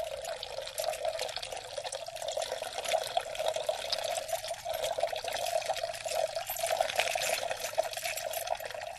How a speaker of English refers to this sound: One of the scenes that we perform does require a fountain sound effect, and that's easily accomplished with a couple of cups of water